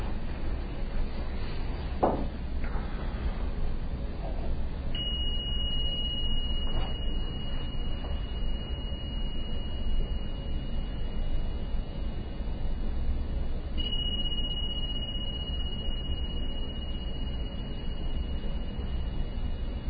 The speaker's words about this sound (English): would you do the bells for us? That would be nice.